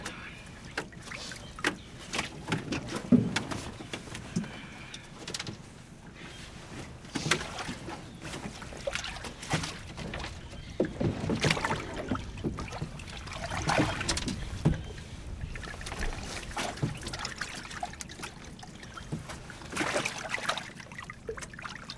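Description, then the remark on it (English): Water laps and sloshes against the hull of a small fishing boat on a calm lake, with occasional knocks and bumps, and faint indistinct voices. “When did you get this boat?”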